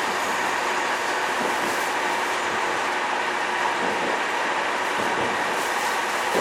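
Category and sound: vehicle, train running on rails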